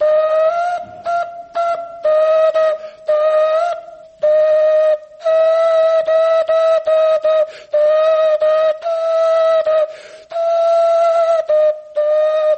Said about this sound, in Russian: Как вы думаете, сколько времени эти орехи не звучали? Я думаю, что сотню лет не звучали точно, при свидетелях, так скажем. Эти свистульки сделаны из кокосовых орехов. Всего-то два отверстия.